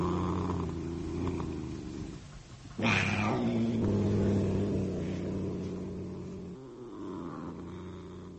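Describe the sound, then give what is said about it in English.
A sleek, fat cat named Saladin purrs in a steady, low, rumbling drone that continues throughout, briefly swelling louder partway through before settling back into its even rhythm. “But even more particularly, she found comfort in her cat, in the gentle, oh-so-comforting purr of her sleek, fat cat, Saladin.”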